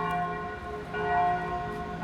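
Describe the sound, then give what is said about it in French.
A church bell tolls for a funeral with a sustained, ringing tone and layered overtones, its resonance swelling and lingering throughout, with no voices present. “Cloche de l'église pour un enterrement.”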